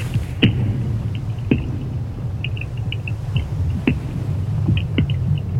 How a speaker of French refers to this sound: Les voilà donc ces sons que vous avez enregistrés avec ces géophones. On a vraiment l'impression de pulsation. Ça donne presque un aspect vivant tout d'un coup à ce bloc de glace. Ouais, et c'est en permanence. Et nous, on les entend pas.